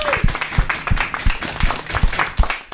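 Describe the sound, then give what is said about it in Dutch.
Applause celebrating a girls' team that became unbeaten champions: steady, rhythmic hand claps, about three per second, loud and crisp over a faint wash of background noise and scattered claps, lasting a few seconds. “Applaus voor jezelf.”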